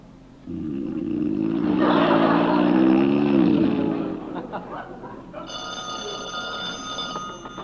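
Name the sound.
telephone bell ringing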